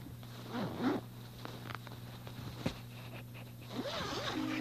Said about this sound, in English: You put the lining in when it's colder weather. See, there's a zipper the whole way around it, inside. You just zip like this.